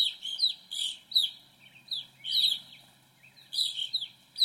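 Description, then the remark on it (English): A grosbeak sings a series of short, bright warbled phrases in quick bursts with brief pauses, clear, with no one talking. “The rose-breasted grosbeak and evening grosbeak take their names from their big, thick, seed-crunching beaks.”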